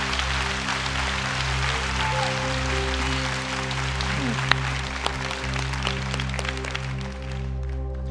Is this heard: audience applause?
yes